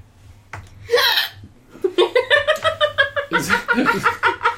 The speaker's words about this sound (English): Okay, it was well, like a belch or a hiccup.